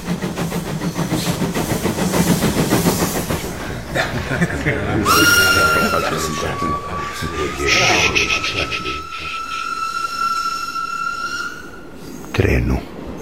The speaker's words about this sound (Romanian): Trenul, amicul meu, s-a dus. Gâfâie când urcă la predeal. La orele 16:43 mă vizitează din nou.